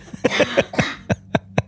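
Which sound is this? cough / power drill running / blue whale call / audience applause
cough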